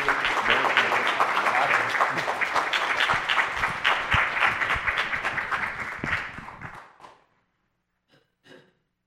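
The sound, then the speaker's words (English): A crowd applauds a speaker after he shared his vision, with dense, crackling clapping for about seven seconds before it tapers off quickly, followed by a couple of faint isolated sounds in near silence. “has shared with us and the vision that he has given, would you just respond with a round of applause?”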